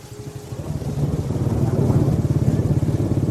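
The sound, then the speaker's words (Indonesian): A motorcycle, ridden through the rain out of Maleber and stopping at the Istana Plaza traffic-light intersection, runs with a steady, low pulsing rumble that grows slightly louder and rougher partway through, its rapid firing beats continuing throughout with no voices. “Keluar dari Maleber, motorku berhenti di perempatan lampu merah Istana Plaza.”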